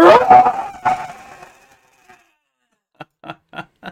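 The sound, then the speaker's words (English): A voice imitates someone screaming like a Godzilla roar: a loud, raspy, growling cry that swells and fades over about a second and a half, followed after a pause by four short, sharp vocal bursts. “But yeah, and it wasn't just roaring, it'd be massive profanity. Oh, and... there'd be profanity, but just the scary part was like Godzilla roar.”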